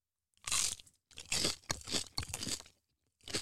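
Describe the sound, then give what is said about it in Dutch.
Loud, crisp crunching as someone bites and chews a kipcorn, a crunchy fried chicken snack, with four or five irregular bursts separated by short pauses and no talking. “Is het deze kipcorn?”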